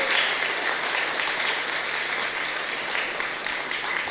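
Sustained applause from an audience, given as a round of applause for a Buddhist teacher, a dense wash of many hands clapping at steady loudness for several seconds, with no voices standing out.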